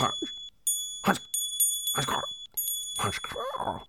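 A small bell rings somewhere deep within an aviary, with a bright, sustained metallic shimmer that lingers through the whole stretch, while several short, rough bursts of other noise cut in around it.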